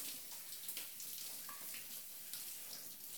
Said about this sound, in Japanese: 左腕も泡を流して、肩から背中に湯を流して、背中に泡を、そのまま私の泡も流してしまいますね。